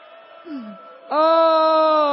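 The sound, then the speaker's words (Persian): A voice imitates a child's wailing cry: a soft whimpering moan with a brief falling sob, then a sudden loud, sustained wail held steadily to the end, alone. “آه آه آه، من اومدم داد بزنم.”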